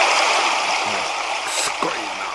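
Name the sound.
river stream flowing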